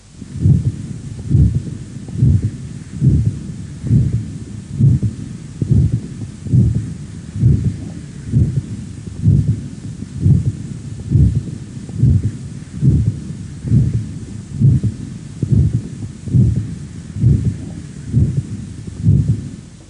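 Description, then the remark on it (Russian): A systolic heart murmur over the aorta of a patient with atherosclerotic disease of the ascending aorta: steady, regular heartbeats with a soft, gentle whooshing noise between them, recorded through a stethoscope, with no talking. “На следующей фонограмме представлен другой вариант систолического шума на аорте, зарегистрированного у пациента с атеросклеротическим поражением восходящей части аорты.”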